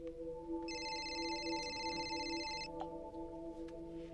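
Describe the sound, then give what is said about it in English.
A mobile phone rings with one steady electronic trill lasting about two seconds, clear, over a constant low background hum, as a woman goes to pick it up. No one speaks. “goes to pick up her ringing mobile.”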